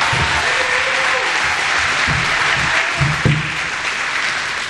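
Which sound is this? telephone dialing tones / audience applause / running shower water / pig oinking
audience applause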